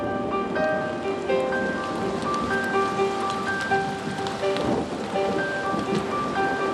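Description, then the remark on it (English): Heavy rain hisses steadily throughout during a storm, with a low rumble of thunder in the hills underneath, while a gentle melody of sustained tones plays over the downpour. “They heard thunder crack in the hills. And then the rain came.”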